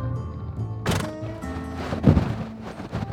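Horses in a warehouse barn at the state fairground in Oklahoma City during a horse show: hooves thump and clatter, with a loud knock near the start and another in the middle, over a steady, humming background. It is windy and rainy outside. No one speaks.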